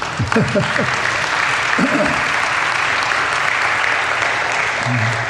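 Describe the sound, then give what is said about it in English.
Steady audience applause at the end of a short morning service, dense and fairly loud from start to finish, with a few brief voices calling out over the clapping. “I know what the clapping's for, short service.”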